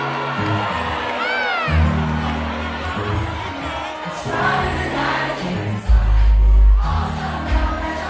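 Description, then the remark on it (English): A crowd at a 90s party hosted by a DJ at the 9:30 Club in Washington, D.C. cheers and whoops loudly over thumping music as he drops a song, with high excited shouts rising and a deep bass hit landing near the end. “And he knows what kind of response he'll get when he drops a song.”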